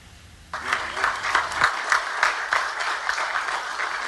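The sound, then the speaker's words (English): Experts and government members attending the 9th Cameroon–Equatorial Guinea Mixed Commission in La Paz applaud, a steady, dense patter of many hands clapping that starts abruptly and holds at an even, fairly loud level throughout. “Experts and members of government attending the 9th Cameroon Equatorial Guinea Mixed Commission clapping over what they think is a job well done to further strengthen relations between the two countries”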